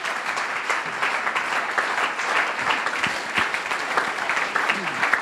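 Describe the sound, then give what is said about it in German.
Steady applause from an audience for the election candidates of the Greens, FDP, SPD, Volt, Freie Wähler and Linke, a dense, continuous patter of many hands clapping at an even level throughout, with no voices standing out above it. “Bitte einen Applaus für alle Kandidatinnen.”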